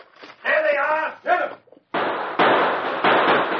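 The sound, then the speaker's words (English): A man shouts briefly, then loud, harsh gunfire erupts in sustained rapid bursts, each starting abruptly and running into the next until the end, as Kurt and his men open fire. “As Kurt and his men opened fire, the sergeant and Travis dropped into the passage.”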